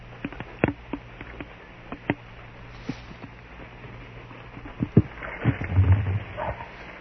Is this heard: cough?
no